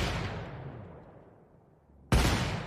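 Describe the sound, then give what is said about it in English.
A musical rendering of gunshots, tied to the Easter Rising and accompanying an interpretive dance: a loud, booming blast fades slowly over about two seconds of reverberant decay before a second sharp, heavy shot cuts in. No voices. “kind of interpretive dance to what is partly a kind of musical rendering of gunshots, which is being tied to the Easter Rising, and her body is responding very closely to these sounds of gunshots in terms of it looking, having an impact on her body.”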